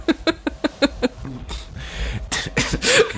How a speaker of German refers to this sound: Da muss ich schon husten, da kommt schon die Idee.